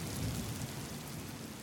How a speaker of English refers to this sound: It's raining. It's a big rainstorm, and it's just about to stop.